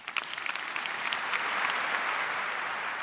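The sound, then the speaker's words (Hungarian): An audience of about 5,000 filling the Paul VI Hall breaks into loud, sustained applause as Pope Leo presents conductor Riccardo Muti with the 2025 Ratzinger Prize diploma; a dense wash of many hands clapping that swells quickly and holds steady, with no voices. “Pater Lombardi felkérése után Leó pápa átadta Riccardo Muti karmesternek a Ratzinger díj diplomáját, amelyet a 6. Palaulát megtöltő mintegy 5000 részvevő hangos tapsra jutalmazott.”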